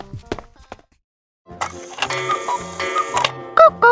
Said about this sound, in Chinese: 卢比发现发出声音的其实不是鸟老师，而是墙上的布谷鸟钟。布谷鸟钟还会说早安呢。